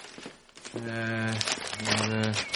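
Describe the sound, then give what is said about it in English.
Newspaper pages rustle and crinkle in short bursts as someone looks through the paper, while someone hums or murmurs two drawn-out tones over the papery crackle. “Well, perhaps it's in the paper. Have a look.”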